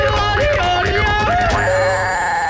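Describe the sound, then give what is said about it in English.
A loud alarm bell rings continuously, its tone warbling up and down in quick repeated sweeps before settling into a steady, sustained high-pitched ring. “Hey, let's sound the alarm.”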